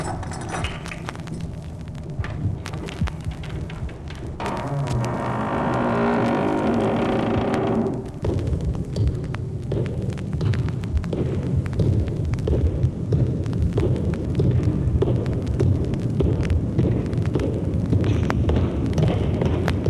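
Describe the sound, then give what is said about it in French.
Loud, continuous roar of racing motorcycle engines at the Bol d'Or race, from a record, with one machine's rising high-pitched whine, a Honda 6, standing out for a few seconds before sinking back into the dense, rumbling engine noise. “rien n'est inventé, c'est le …, donc cette course de moto, le Boldor, qui est imprimé sur une feuille dorée, en noir, sur une feuille dorée.”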